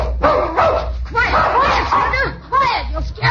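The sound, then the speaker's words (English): A dog named Senator barks and yelps repeatedly while waiting for ducks on a hunt, several loud, high-pitched bursts in quick succession with whiny, rising-and-falling tones between them. “Hold the dog”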